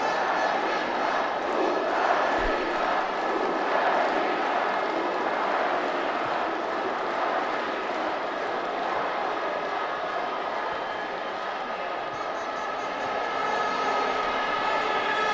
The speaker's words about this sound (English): but as you can hear, the crowd are still giving it everything. I think their team are trying to do the same for them.